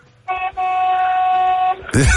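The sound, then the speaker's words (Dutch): A truck horn honks loudly: a short blast, then a long, steady, sustained one with a rich buzzing tone. A voice begins speaking just after it stops. “Maar eerst even bewijzen dat je in een vrachtwagen zit. Ik wil wel even een klakson horen.”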